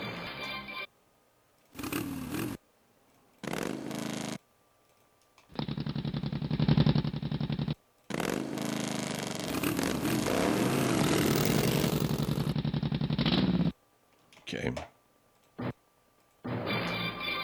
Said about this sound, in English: Okay, now, those are our motorcycles.